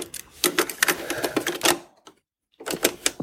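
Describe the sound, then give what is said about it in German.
A cassette tape is pushed into a player with a busy run of plastic clicks and clatter, then a short pause before another burst of mechanical rattling. “Ich mache mal die Kassette rein”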